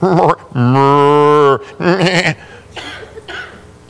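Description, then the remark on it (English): A sheep bleats loudly in a long, wavering call, followed by a shorter bleat and a few fainter animal calls trailing off, like a small farmyard flock. “what then is this bleating of the sheep in my ears and the lowing of oxen which I hear?”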